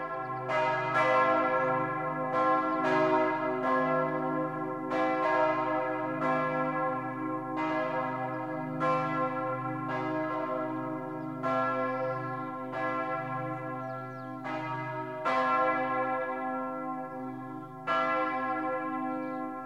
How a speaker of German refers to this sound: Was einst der Engel den Hirten verkündete, das singen heute die Glocken der ganzen Welt.